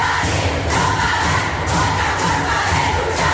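A large street protest crowd in Chile, met with a forceful response from the carabineros (Chilean police), shouts in a dense, continuous roar, with sharp bursts recurring in a steady rhythm about twice a second, like chanting or banging, loud throughout.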